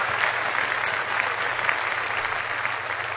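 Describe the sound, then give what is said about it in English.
A steady round of applause, many hands clapping in a dense, crackling wash that holds a fairly even loudness for a few seconds with no voices. “And then a round of applause”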